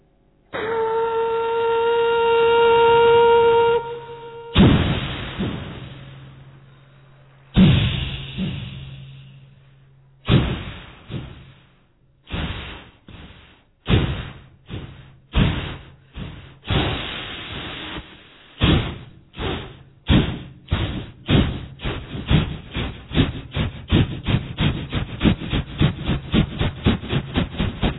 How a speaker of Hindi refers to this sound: घूमता हुआ मैं रेलवे स्टेशन पहुंच गया। वहां से एक कोयले वाली रेलगाड़ी स्टार्ट होती है, जिसके अंदर कोयला गेरते हैं, भाप बनती है, भाप का इंजन स्टार्ट कैसे होता जरा सुनिए।